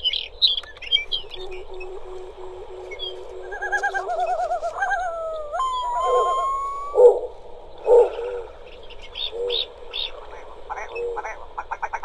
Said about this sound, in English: Hearing a long-tailed duck. We heard from a willow ptarmigan and a snowy owl and that call of the yellow-billed loon that we heard earlier. That snowy owl pops right up out of the middle.